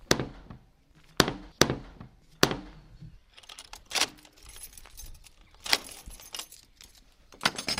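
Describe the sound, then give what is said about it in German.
Several sharp metallic clacks and a rattle of keys in a heavy lock, followed by a longer, noisy scraping and rattling as the heavy wooden entrance door of Burg Dinklage, a moated castle in the Oldenburger Münsterland now used as an abbey, is pushed open by a nun. No one speaks. “Eine schwere Holztür versperrt den Zugang. Einlass findet, wer klopft oder klingelt.”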